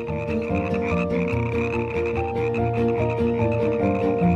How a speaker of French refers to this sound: Donc, au lieu de 60, vous êtes prié de brider le chant de vos grenouilles à 30 décibels. Après, vos gueules les mouettes, c'est silence les grenouilles.